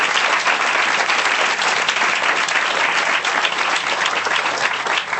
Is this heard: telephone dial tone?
no